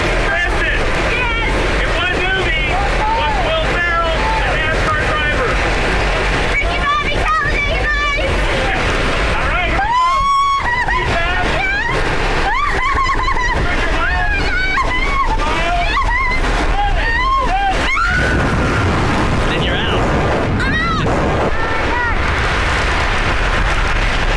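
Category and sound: nature, wind rushing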